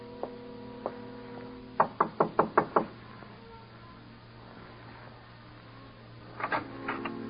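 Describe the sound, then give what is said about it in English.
A quick, evenly spaced run of five or six firm knocks on a door, with a couple of lighter taps before and another brief burst of knocking later, over a steady low hum. “And a door found.”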